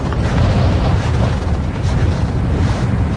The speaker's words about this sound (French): Il y a beaucoup de vent, hein. Il y a beaucoup de vent, là, il y a...